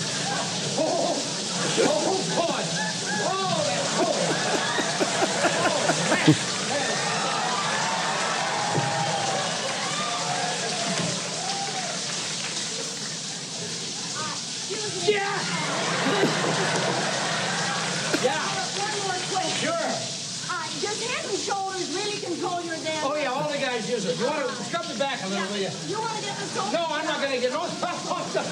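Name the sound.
shower water running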